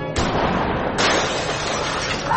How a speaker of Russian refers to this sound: Стекло где-то разбивается.